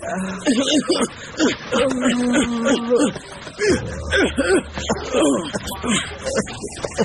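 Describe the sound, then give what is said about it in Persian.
A man addressed as master (teacher) cries, his voice breaking into wavering, sobbing wails in uneven bursts, with a low steady hum underneath during the second half. “چرا گریه رو شروع کردی استاد؟”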